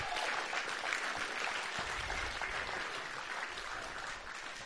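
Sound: audience applause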